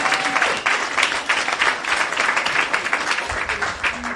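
A crowd breaks into sustained applause, dense overlapping claps filling the room at a steady, fairly loud level for several seconds with no one speaking.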